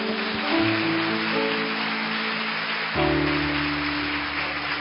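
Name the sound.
audience applause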